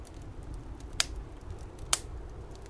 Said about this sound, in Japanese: 白い雪の音と、部屋の中は暖炉の焚き火の音。